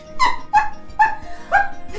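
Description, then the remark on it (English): A voice imitates wolf puppies yapping up at a tree: four short, high-pitched yips in a quick, uneven rhythm, each bright and nasal, with no other talking between them. “So the shadow has just skittered up a tree, and the wolf puppies run up to the tree, and they're yapping up at the tree and bouncing, but they're not able to reach the shadow where it is right now.”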